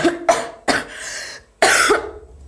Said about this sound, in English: I'm ill. Oh, dear, sounds like you've got a nasty cough.